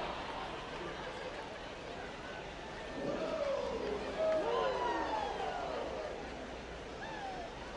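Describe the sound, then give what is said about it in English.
A steady, diffuse murmur of a large baseball crowd milling about an open concourse on a Thursday night in good weather, with overlapping voices and chatter swelling slightly midway, without any single clear speaker. “Good crowd here on Thursday night, milling about, creating a good amount of buzz.”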